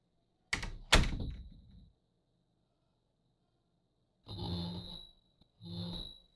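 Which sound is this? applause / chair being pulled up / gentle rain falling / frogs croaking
chair being pulled up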